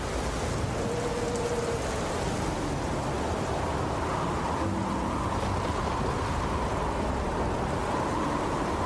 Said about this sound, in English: It's raining, dramatic.